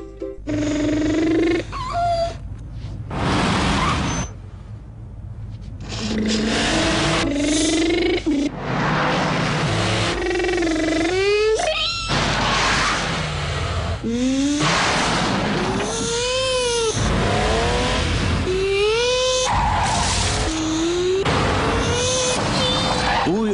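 A race car engine revs hard again and again, its whining pitch climbing and dropping with each gear change, loud and steady with bursts of roaring noise, and no voices, in a radio advert for OMV fuel.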